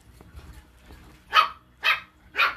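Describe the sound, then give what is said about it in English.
A female pet dog barks three times in a steady rhythm, each bark sharp and fairly loud, after a brief stretch of quiet low rumbling background. “My dog is biting my foot. So that's a sign for me to take her outside.”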